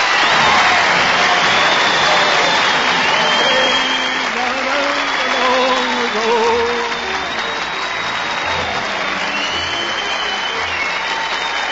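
Sustained applause from a large audience, measured by an applause meter to choose a contest's grand prize winner. The applause is loud and steady throughout, with a dense wash of clapping and some faint cheering and voices mixed in.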